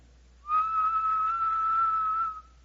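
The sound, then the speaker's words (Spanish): A soft, gentle whistle: one steady, sustained note held for about two seconds, heard on its own with no talking, fading out smoothly at the end. “Un silbido apacible y delicado.”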